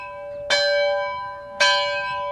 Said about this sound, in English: I wondered how many years the old school bell, mounted on a frame near the door, had called kids in from recess.